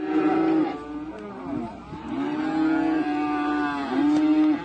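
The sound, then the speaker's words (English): Several cattle moo in long, drawn-out calls, overlapping one another, with low bellows rising and falling across the few seconds and no voices present; the cattle of nomadic herders in Santa, in Cameroon's northwest region. “cattle used to graze graciously on vast lush vegetation in Santa, a locality in Cameroon's northwest region, but no more.”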